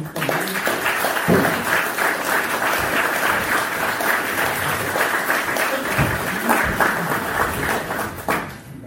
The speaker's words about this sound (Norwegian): Så fint hvis dere gir litt respons og har kommentarer på spørsmål. Da har jeg lyst til å gi Preben Aabildsland en liten applaus fra dere.